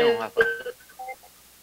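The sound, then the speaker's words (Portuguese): A voice speaks briefly, then a few short electronic telephone keypad beeps follow at uneven intervals as someone dials a phone call. The first is louder, and the later two or three beeps sound quieter and clipped. “Eu vou tentar falar com ele aqui”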